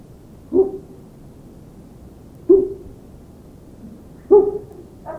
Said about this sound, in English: Make him react to this owl hoot, and then he starts to go so.